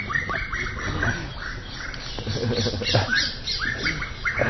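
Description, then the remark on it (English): A flock of birds squawks and chatters loudly and continuously, their harsh, overlapping calls bursting in rapid, irregular clusters with no pause and no voices present. “Must have been a good joke. The birds are laughing.”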